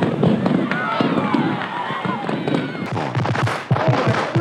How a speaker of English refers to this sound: Above us, the fireworks were still bursting against the night sky.